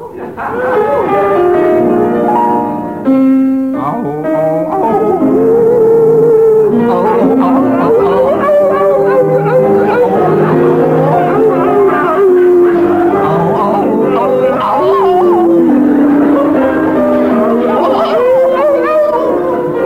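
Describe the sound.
Two voices howl a slow melody like wolves, singing an old French song as wolves, with long wavering, gliding notes sustained loud for the whole stretch, no ordinary speech between them.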